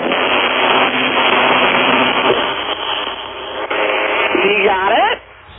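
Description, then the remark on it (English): Two vibrators buzz at once in a dense, steady motor drone, with people talking over it. Near the end a whining tone sweeps upward before the buzzing abruptly drops away. “And again, let's just listen to the dueling vibrators.”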